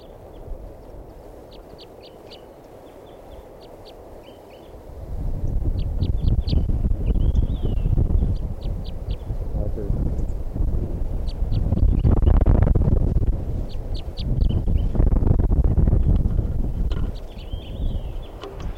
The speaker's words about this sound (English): And there's a third one still here, and it's a yellow male. He's coming back for his flock mates. Recording now. I'm going to record that one bird that's not caught yet. He knows about the net.